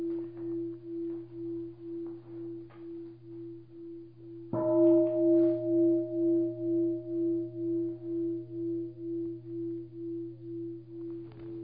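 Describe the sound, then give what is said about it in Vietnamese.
A Buddhist dedication bell sounds twice: the first tone is already humming with a slow, wavering pulse, then a second, louder strike rings out midway and fades long and resonant, with no talking. “Các vị nghe hai tiếng chuông hồi hướng.”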